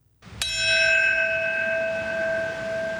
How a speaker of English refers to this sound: At 8:46 a.m., the toll of the bell marked the moment the first plane flew into the North Tower. Heads bowed for a moment of silence.